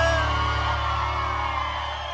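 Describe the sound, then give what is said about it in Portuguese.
A large crowd cheers loudly and continuously, with whoops and shouts blending into a dense, sustained roar that fills the space for a couple of seconds. “Só quem gostou, solta o grito aí!”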